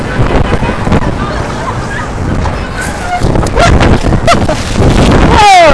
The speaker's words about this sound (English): but it is windy. I'm walking up 8th Avenue towards 59th Street from the Circle, and it's starting to rain, and it was just really winding down, like it was just absolute crazy wind, and I'm opening up my umbrella because I'm about to get soaked.